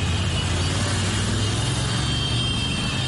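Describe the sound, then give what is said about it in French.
A dense, continuous roar of hundreds of motorcycle taxis parading through a street, with supporters greeting the Lions de la Teranga, champions of Africa. A steady droning hum with a constant wash of traffic noise and no pauses. “Parade de centaines de mototaxis.”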